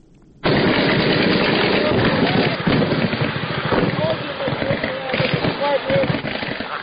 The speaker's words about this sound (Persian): شبرغان جنگ برای 90 روز طول کشیده و زندگی مردم این شهر را مختل کرده است. صدای شلیک سلاح های سبک و سنگین در جنگ شب و روز در اطراف و داخل شهر شنیده می شود.